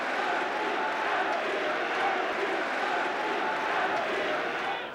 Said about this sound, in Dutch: En dan komt die voorzet, die draait van de achterlijn af. Willem Kieft, en het is 3-0. Het applaus is voor Johan Cruijff.